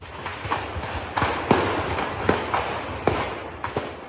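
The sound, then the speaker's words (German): Ammunition and fireworks detonating in the Grunewald in Berlin in the early morning of 4 August, a rapid, irregular series of sharp bangs and cracks, some louder than others, over a steady rumbling background with no voices. “Munition und Feuerwerkskörper detonierten.”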